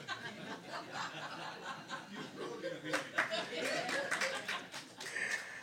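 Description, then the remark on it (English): Several sharp hand claps burst out in an irregular cluster near the end, fairly loud, mixed with chuckling and murmured voices underneath. “Bro, I want to dance, not clap.”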